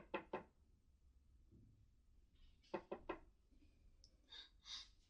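Two quick knocks on a door, a pause, then a quicker run of three knocks, muffled and fairly quiet, followed by soft breathy sounds.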